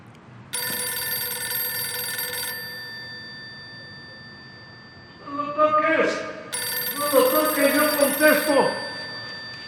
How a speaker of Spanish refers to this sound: Llega junto al teléfono y se sube el cierre. ¡Apúrese, van a colgar!